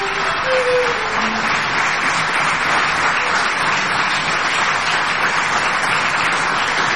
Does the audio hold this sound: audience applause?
yes